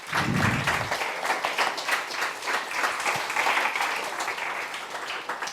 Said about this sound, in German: Vielen Dank an die Hop Foundation für die Veranstaltung hier. Genau, einmal Applaus. Vielen, vielen Dank.